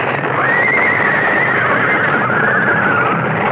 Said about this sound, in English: Coming off the bridge, the lead horse panicked, pulling the whole rig to the right, so that what was coming was inevitable.